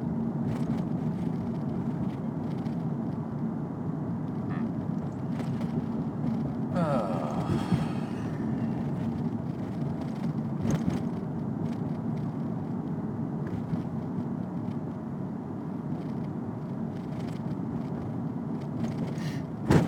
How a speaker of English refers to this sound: Now we're popping out off of Franklin onto Lombard. It's a straight shot out this city. There's a lot of cars here.